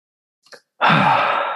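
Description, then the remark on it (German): A man takes a short, soft intake followed by a loud, rushing exhale blown straight into his microphone, breathy. It sustains for nearly a second with no talking. “atmet kurz in sein Mikro.”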